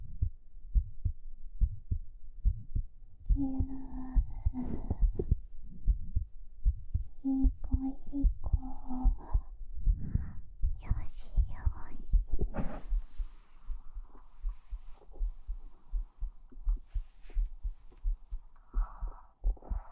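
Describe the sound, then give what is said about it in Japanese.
A steady, muffled heartbeat thumps in a continuous low rhythm for the whole stretch, prominent, with brief soft vocal sounds drifting in over it now and then. “心音耐久ママ心音ママって何言うんだろうね。”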